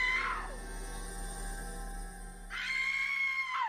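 A terrified woman screams as she runs for help: a short, piercing shriek, a pause, then a longer high-pitched scream that wavers and trails off downward, loud.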